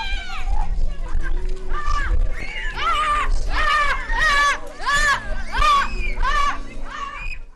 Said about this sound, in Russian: В жаркие дни детям устраивают минуты обливания.